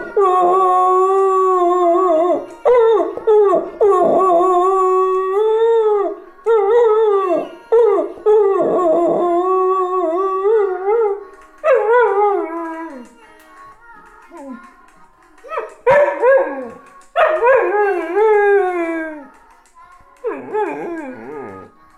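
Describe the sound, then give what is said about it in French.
A dog named Indy howls loudly along to music in a long run of drawn-out, wavering howls with short breaks between them, rising and falling in pitch with occasional whimpering yips. “Il s'appelle comment le chien?”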